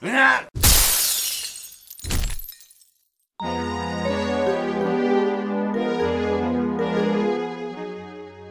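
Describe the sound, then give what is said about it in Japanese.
A glass door shatters with a loud crash as a man is knocked out through it by a strong punch, then a shorter second burst of breaking glass follows; after a brief silence, music begins and carries on steadily. “その彼を父は強い一撃でガラス戸の外に殴り倒した。”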